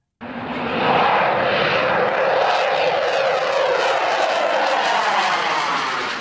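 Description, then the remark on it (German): A loud, sustained roar from the engine of one of the three fighter jet models proposed for the Swiss Air Force builds up within the first second and holds steady, a broad rushing noise with a faintly shifting tone and no voices. “3 Modelle stehen zur Auswahl, doch für Normalbürger sind sie so, wie sie tönen. Alle gleich.”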